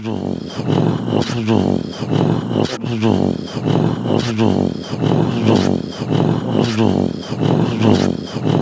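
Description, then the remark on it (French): A human voice makes a low, continuous, rasping grunt, edited into a loud rhythmic rumble that pulses steadily and imitates a large cat purring in its sleep. “Une sorte de gros chat qui ronronne en dormant.”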